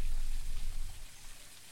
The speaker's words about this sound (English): Ahead, you notice the sound of falling water growing louder, a gentle symphony of nature's heartbeat.